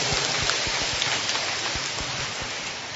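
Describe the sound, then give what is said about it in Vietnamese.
A sustained round of applause congratulating all the teachers, dense and steady, with many overlapping hand claps forming a continuous crackling wash for the full three seconds and no voices. “Rồi, một tràng pháo tay nữa để chúc mừng tất cả các thầy, các cô nha.”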